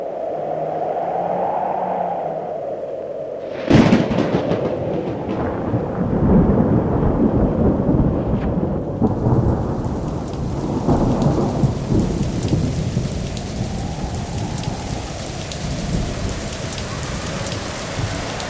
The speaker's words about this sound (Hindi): ओकर बाद में पानी परेला शुरू भेल।